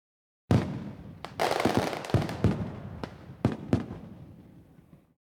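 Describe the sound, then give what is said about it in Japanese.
Fireworks going off in a rapid, irregular string of sharp bangs and crackles over a rolling, echoing rumble that gradually fades, with no voices. “あ、花火、始まっちゃったな。”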